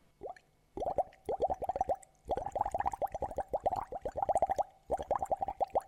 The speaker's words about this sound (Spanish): Ah, ya entiendo. Usas un vaso con agua y con una pajita soplando suavemente.